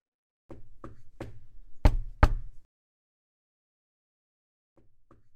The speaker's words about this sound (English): Knock, knock. Who's there?